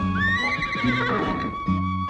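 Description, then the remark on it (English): A horse under an oak tree whinnies loudly, one long quavering neigh lasting about two seconds, with low harmonic snorting underneath and no talking. “Old Flora, our horse, sat under the oak tree.”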